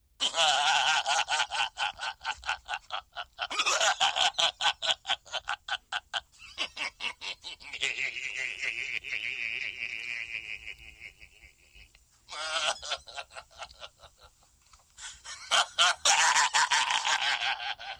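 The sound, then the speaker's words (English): A custom phone ringtone, set for calls from a charity, plays loudly: buzzy, rapidly stuttering bleat-like tones in bursts, a steadier trilling middle section, then a loud, harsh closing burst, with no talking over it. “Yes, I would like to hear your ringtone.”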